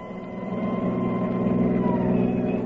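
vehicle, ambulance siren

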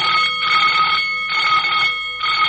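signal or alarm, alarm bell ringing

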